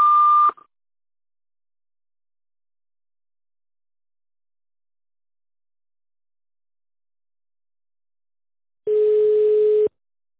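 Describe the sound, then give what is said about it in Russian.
A short, steady telephone beep sounds after the automated voicemail greeting of the Pirogov polyclinic, followed by a long silence and then a second, longer and lower-pitched electronic tone. No one speaks. “Если вы знаете короткий номер сотрудника, то наберите его после звукового сигнала.”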